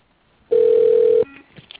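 A single loud, steady telephone ring tone holds one mid pitch for under a second, heard through a thin phone line as a call is placed to Turner Supply, then fades into faint line noise.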